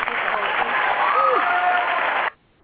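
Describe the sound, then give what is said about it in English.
A dense burst of crowd applause with scattered whoops and cheers, celebrating a giveaway winner on the Josie Show, loud and steady for about two seconds before cutting off abruptly into near silence. “Give her a big woohoo! Everybody oh yeah!”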